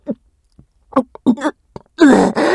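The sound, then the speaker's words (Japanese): Several short, throaty belches in an irregular series, ending in a long, loud, low rumbling burp that breaks into two parts. No words are spoken. “やば、ゲップ止まんねえ。”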